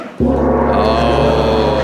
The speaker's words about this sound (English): Oh, I'm afraid the whistle means that's the end of that round.